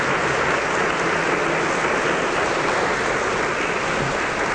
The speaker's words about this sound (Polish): W 100% niewyreżyserowane oklaski.